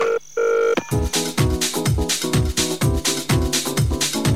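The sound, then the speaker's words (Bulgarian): A brief burst of steady electronic telephone dialing tones from a Darik radio wake-up call segment opens, then quickly gives way to loud, rhythmic music with a thumping bass beat. No one speaks. “Насърчи събуждане по телефона, като се обадиш на Дарик.”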